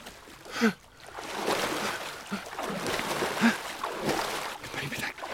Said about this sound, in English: Whatever it is, it's swimming under the boat. Hey! Stop rocking the boat!